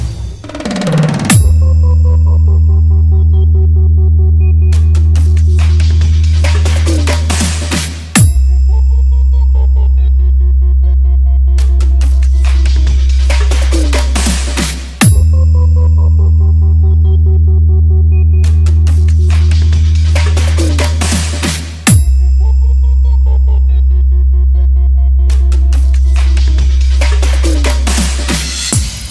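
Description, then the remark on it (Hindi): A loud bass sound test by a DJ from Ramnagar: deep, booming sustained bass tones repeat in roughly seven-second cycles, each opening with sharp, bright percussive hits. No one speaks. “वाह भाभी जी, मजा आ गया … का बेस सुनकर।”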